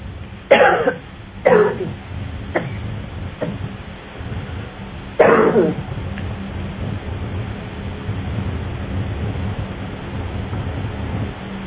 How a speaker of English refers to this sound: Okay, I want you to open your mouth and cough.